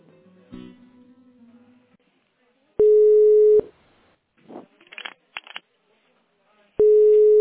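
Loud, steady telephone line tones sound in two long beeps while a call is being transferred to another person, separated by a few seconds of quiet clicks and faint rustling, with a brief murmur of voice near the start.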